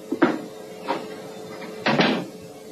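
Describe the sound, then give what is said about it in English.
A door is pulled shut: a few short, solid knocks and rattles spread over a couple of seconds, ending in a firmer double clunk as it latches, with no one speaking. “Please close the door behind you.”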